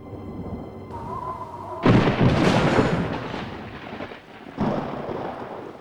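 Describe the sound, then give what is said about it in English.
A thunderstorm with deep rolling thunder: a loud crash bursts in and rumbles away over a few seconds, then a second roll breaks near the end. No one speaks. “Looks like the storm will last the night.”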